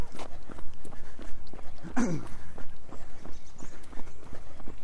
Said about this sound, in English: Okay, one of my dogs.